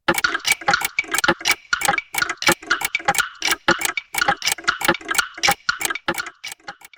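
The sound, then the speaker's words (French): A clock ticks steadily, a crisp, regular tick-tock repeating throughout with no voices over it. “Le réveil ou l'horloge synchronise le passage du temps à la respiration de leur dormeur.”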